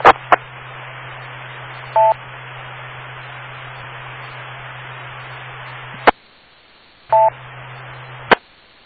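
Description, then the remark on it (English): Two short touch-tone dialing beeps, several seconds apart, as someone dials to make a phone call, sound over a steady hiss and low hum, with sharp clicks at the start and end and a brief dropout between. No one speaks. “I'm going to make a phone call myself.”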